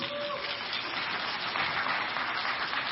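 A crowd applauds steadily for about three seconds to welcome a woman onto the stage, a dense, crackling wash of many hands clapping at even loudness with no voices standing out.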